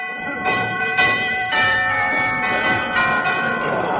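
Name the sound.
doorbell ringing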